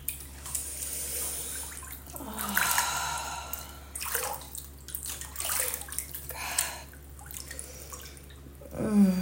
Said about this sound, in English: All soapy and wet, and getting water all over the floor. Just moving the hot water all over my body.